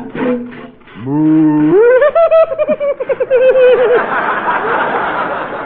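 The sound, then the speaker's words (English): A loud, drawn-out moo from a cow about to be milked outdoors in the cold, starting low, then rising and wobbling with a tremulous vibrato for a couple of seconds before fading into a wash of crowd noise. “I have a cow out here, and I'll milk her.”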